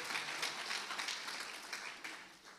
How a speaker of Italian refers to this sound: Facciamo un applauso per il Signore, facciamo un applauso ancora più forte.